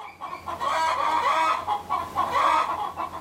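A flock of hens clucks busily and continuously, with a rooster's calls mixed in, fairly loud against a steady farmyard background, as the rooster gathers his hens in their enclosure to lead them toward the coop.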